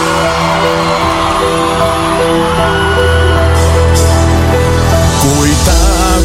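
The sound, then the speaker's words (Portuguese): A large live crowd in São Paulo cheers and shouts loudly and without a break, with scattered whoops rising out of the roar and a steady musical tone humming underneath. “Dá um grito aí, São Paulo, na mulher, o quê?”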